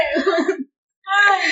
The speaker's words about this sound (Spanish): Hasta me dio, hasta me dio tos.